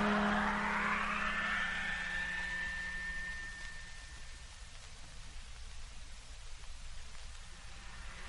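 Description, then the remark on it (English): A truck motor is switched on and revs up with a rising whine, then settles into a steady, loud rumble and rushing drone as the truck drives along, with no voices. “Motor on. And here we go.”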